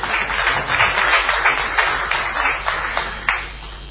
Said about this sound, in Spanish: Aplauso fácil, ¿no?